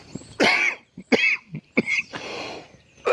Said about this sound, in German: Entschuldigung, ich bin total verschluckt. Ach, Hilfe.